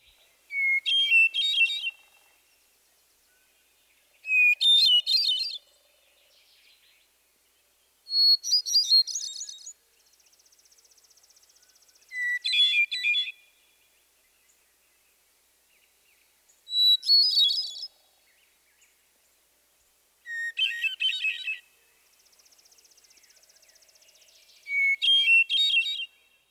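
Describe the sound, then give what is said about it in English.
A hermit thrush sings its ethereal, flute-like song: seven separate phrases spaced evenly a few seconds apart, each opening on a clear, long, relatively low held note and spilling into a rising, fluttering tremolo, with no talking. “The Hermit Thrush's song is another beautiful vocalization. Its ethereal flute-like melody is best recognized by the long, relatively low introductory note.”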